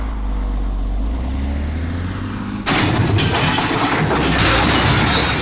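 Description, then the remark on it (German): A truck's low engine rumble builds as it reverses under throttle, then a sudden loud crash of shattering glass and debris at about two and a half seconds as it drives into a bank branch's glass front, continuing as a noisy, crunching impact. “LKW klauen, Bankfiliale mit Glasfront finden, den Lastwagen unauffällig davor positionieren, den Rückwärtsgang rein und Gas geben.”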